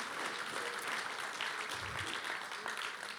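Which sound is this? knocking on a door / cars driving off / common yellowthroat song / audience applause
audience applause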